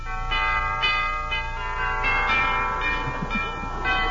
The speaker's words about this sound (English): It's a hunk of doorbell, isn't it?